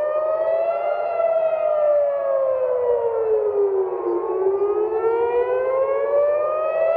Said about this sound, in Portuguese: Pouco depois, sirenes de alerta foram acionadas em Jerusalém, após uma série de disparos vindos do Irã.